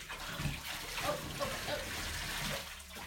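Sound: splashing water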